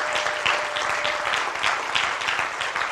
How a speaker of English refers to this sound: Those who are hosting, those who are help leading a group, if you'd stand to your feet, let's give these people a round of applause this morning.